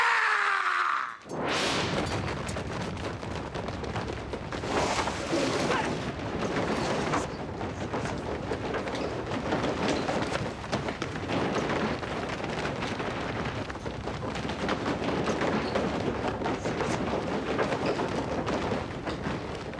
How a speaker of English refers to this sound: You'll hear some really loud clattering sounds in the middle. That's about 60 more assassins pouring into the room.